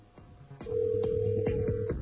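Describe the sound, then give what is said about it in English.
A telephone ringing tone heard down a phone line: after a couple of faint clicks, a single long, steady buzzing tone sounds, thin and narrow, with no one answering or speaking. “It's still ringing there.”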